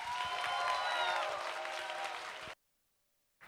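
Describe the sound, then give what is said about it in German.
A burst of audience applause welcoming performer Matthias Egersdörfer on stage, loud and steady with dense clapping and some cheering whistles, cutting off abruptly into silence before a brief return of noise at the end. “So viel Applaus bin ich gar nicht gewöhnt.”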